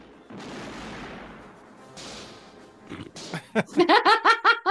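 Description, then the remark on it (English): A heavy cannon blast booms and rumbles away, followed by a second shot, then bursts of rhythmic, hearty laughter take over near the end. “Why use a small gun when I could use a cannon?”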